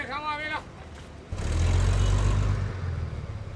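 Loud city bus sounds: a brief high whining tone, then a heavy low engine rumble and broad road noise as the hot, crowded bus pulls away to cross town, easing off toward the end.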